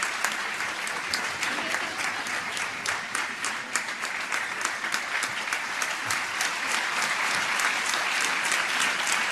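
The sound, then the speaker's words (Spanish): Sustained applause from a large crowd at a graduation ceremony for new doctors of the doctoral programme in Sport and Health, a dense, steady wash of many hands clapping at an even level, with no voices standing out above it. “El birrete que se ha caído, el rector lo vuelve a colocar, y como pueden escuchar, pues el abrazo, el aplauso sobre todo es lo que escuchamos.”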